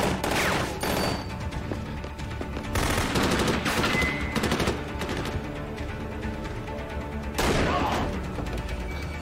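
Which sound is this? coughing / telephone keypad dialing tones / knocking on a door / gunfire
gunfire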